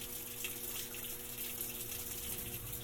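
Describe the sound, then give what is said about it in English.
Water pours steadily into a washing machine, a continuous hissing rush with faint low mechanical hum beneath, unbroken and fairly quiet throughout with no voices. “The water fill in here is a bit more dynamic.”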